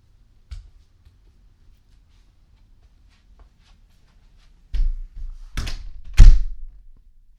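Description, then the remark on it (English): A door is shut: a faint knock, a pause, then a few quick handling bumps that end in a firm, loud thud. No one speaks. “Close the door first, you idiot.”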